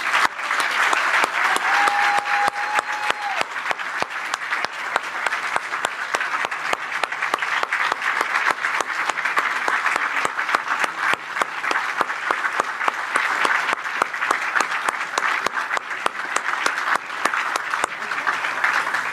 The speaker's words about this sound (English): If you guys would help me, join me in a round of applause and help me say thank you to our players and our staff members who are here who helped us have a tremendous season.